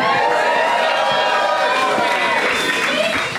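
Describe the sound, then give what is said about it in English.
A large festival audience cheers and whoops loudly and continuously, a dense roar of many voices with scattered shouts rising above it, sustained throughout. “I love a festival crowd that wants to come see a fun show that they never listen to.”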